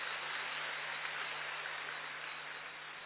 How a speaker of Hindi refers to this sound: बहुत बहुत धन्यवाद आदरणीय दादी जी का। और हाँ जी, ताली बजा सकते हैं जरूर।